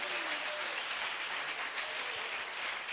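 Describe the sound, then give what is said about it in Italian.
An audience applauds for Jesus Christ, a dense, steady wash of many hands clapping that fills the space evenly for several seconds without a break. “Alleluia, forte l'applauso a Cristo, se lo credi, daglielo forte.”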